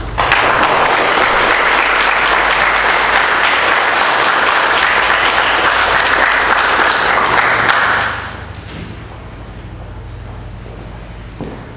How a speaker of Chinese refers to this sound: 我们是不是可以再一次以热烈的掌声感谢他们的分享。